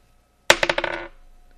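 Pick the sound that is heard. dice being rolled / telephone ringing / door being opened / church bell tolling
dice being rolled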